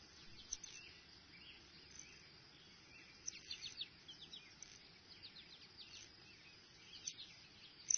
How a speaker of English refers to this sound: That high, thin whistle indicates waxwings. All winter long, waxwings stick together in dense, cohesive flocks that fluidly fly and forage as one.